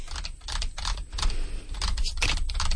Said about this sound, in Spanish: ¿Lo escucháis? What am I doing? Estoy tecleando. Será un teclado.